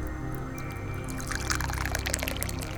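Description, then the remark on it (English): Tea pours steadily into a cup, a continuous liquid splash that grows brighter and more bubbly as the cup fills, with no talking. “yeah, let's just pour some tea.”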